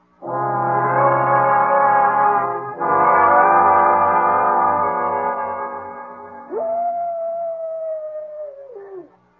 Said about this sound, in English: What was that? It's just a coyote. Sounds like it came from the canyon.